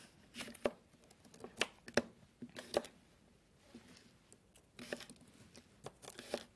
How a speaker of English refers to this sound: So if you'll just start slicing these Brussels sprouts in half. All right. And I'm going to dice this apple here.